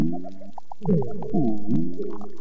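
A low, mysterious foghorn-like moan rises and falls underwater at a coral reef in Indonesia, with rhythmic pulsing tones and sliding harmonics, fairly loud, no voices present; what makes the sound is unknown.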